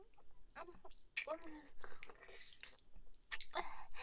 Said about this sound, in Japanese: 歯を当てないようにもぐもぐして、君の清掃を舌でコリって弾いちゃうの。